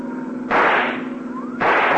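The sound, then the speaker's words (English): A rifle shot rings out, then a loud pop of a car tire blowing out about a second later, both sharp bursts over the steady drone of a running engine. “There goes the tire.”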